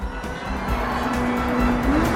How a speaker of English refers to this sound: The sleek red sports car races after the woman's boxy electric vehicle.